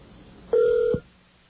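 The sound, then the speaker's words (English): A single steady telephone keypad tone sounds for about half a second, mid-pitched and fairly loud, then cuts off with a soft click, as the English-language number for Chase Card Member Services is dialed. No one speaks. “So let's call the English version. Here we go. English version of that number.”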